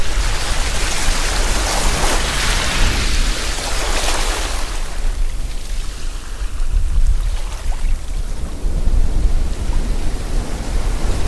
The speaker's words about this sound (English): And then maybe I want to make it feel now that we're walking down from the cliffs along to a pebbled beach. Hear the waves lapping up against the pebbles a little bit more audibly.